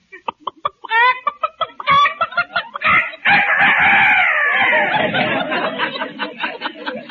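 rooster crowing

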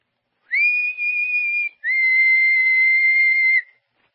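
person whistling softly

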